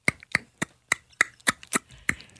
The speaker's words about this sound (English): Hands clapping. Hands clapping. Yeah. Hold on. Do the noise again. Do the noise again.